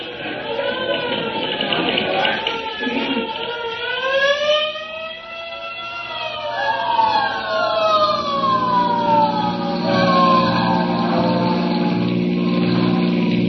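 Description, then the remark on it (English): A hook and ladder fire truck on the street answers an alarm, its siren wailing in long rising and falling sweeps, loud and continuous, with a steady low engine drone building underneath as it passes. “Say, there's a hook and ladder on the street right now.”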